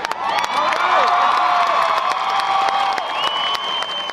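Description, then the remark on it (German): A large crowd at TV screens in a park in front of the festival area in Chicago cheers and applauds continuously during Barack Obama's midnight speech, with sustained shouting and whooping voices layered over steady clapping, loud throughout the four seconds. “Jubel, Applaus, auch hier.”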